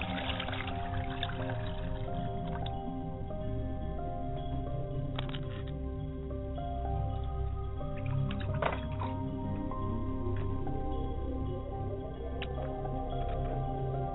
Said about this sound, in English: And I pour the water for them. I set a glass down for my father and pour the water.